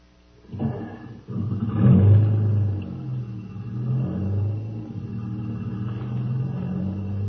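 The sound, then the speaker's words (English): A jeep engine starts with a low rumble, revs up to a loud roar, then settles into a steady drone as the vehicle pulls away, with the pitch rising and falling through gear changes. “Get in the jeep. I'll have to step on it if we're going to catch that plane.”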